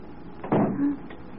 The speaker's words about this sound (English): The door. It's closed behind us.